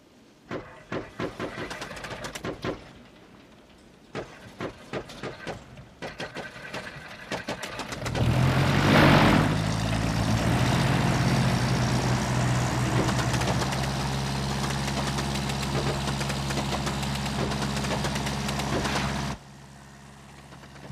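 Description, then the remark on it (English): A propeller plane engine that people have just got working sputters and coughs with irregular pops, then catches and roars into a loud, steady droning run for about ten seconds before cutting off abruptly. “They've got that damn plane working.”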